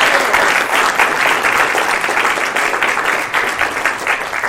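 A room full of people claps steadily for several seconds, a dense, loud wash of applause that stays even throughout with no voices breaking through.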